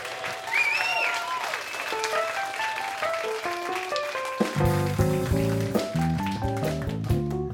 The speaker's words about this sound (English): Let's have one more round of applause for all of our storytellers tonight.